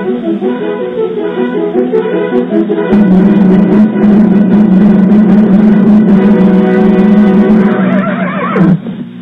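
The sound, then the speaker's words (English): A horse neighs and whinnies loudly in the opening of The Lone Ranger, its shrill, wavering call holding for several seconds before breaking into a quick vibrating trill near the end. “A fiery horse with a speed of light, a cloud of dust”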